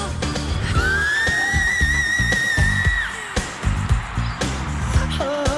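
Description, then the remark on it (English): A Northern Cardinal sings a long, clear whistled note that slurs upward and holds steady, then a brief rising whistle follows, heard over a dense, rumbling background. “Even if you don't have any big names touring nearby, you can find birds with impressive vocal talents, like the widespread Northern Cardinal.”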